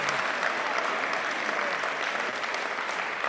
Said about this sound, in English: Let's give them both a round of applause and thank them for their services.